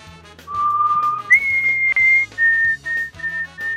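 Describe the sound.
A caller to a radio show whistles a clear, loud melody, holding a low note, then jumping to a long high tone followed by several shorter high notes, with faint background noise beneath.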